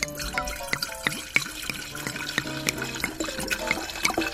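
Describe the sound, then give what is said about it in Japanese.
Sake glugs from a bottle into a cup for a memorial toast (kenpai), a steady run of quick gurgling pulses with a rising tone as the cup fills. No one speaks. “ではですねちょっとこのお酒で、まあ、あの乾杯じゃなくて献杯ね、今日も献杯になってしまうんですけれども献杯したいと思うのでお継ぎしたいと思います。”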